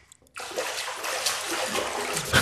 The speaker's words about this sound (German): Komm, plätscher nochmal.